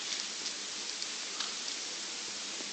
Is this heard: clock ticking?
no